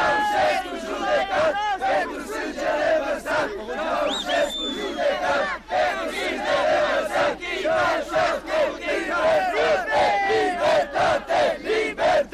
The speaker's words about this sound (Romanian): Grupuri, timișorenii își strigau bucuria.